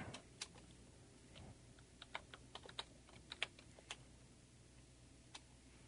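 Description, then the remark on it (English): Typing on a computer keyboard while searching for something on Google: quiet, irregular bursts of sharp keystroke clicks, some clustered in quick runs and others spaced apart, with no talking over them. “Oh, I know this is great radio when you're sitting here listening to me Google stuff.”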